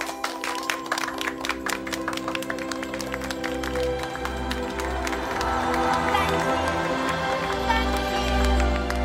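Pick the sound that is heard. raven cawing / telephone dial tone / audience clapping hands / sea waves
audience clapping hands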